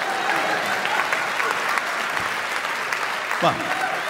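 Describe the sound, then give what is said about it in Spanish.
An audience applauds steadily for several seconds, a dense, even clatter of many hands clapping, with a brief voice cutting through near the end. “¿Qué aplauden?”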